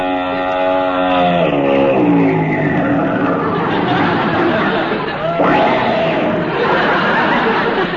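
Mrs. Bob Orpington's big long limousine rolls up, its engine note dropping as it slows to a stop, with a steady wash of street noise and faint crowd chatter throughout.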